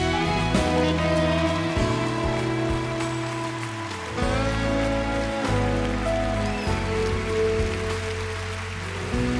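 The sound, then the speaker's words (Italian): Steady rain falls outside, pattering continuously beneath sustained, mellow musical tones, a soft wash of drops blending with a slow, gentle melody at a moderate, even volume throughout. “Fuori piove.”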